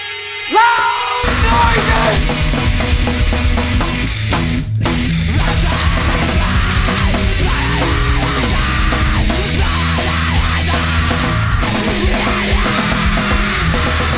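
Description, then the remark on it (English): Several men yell and shout over one another in a loud, chaotic burst that barely lets up, with dense overlapping voices and some clattering commotion underneath. “I don't know what we're yelling about!”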